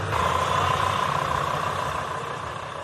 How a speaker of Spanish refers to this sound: Y eso va a complicar mucho el día a día de los 11.000 españoles que trabajan en Gibraltar. Claro, cruzan cada día una verja que suena así.